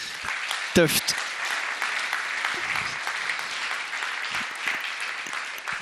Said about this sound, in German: Dir auch herzlichen Applaus.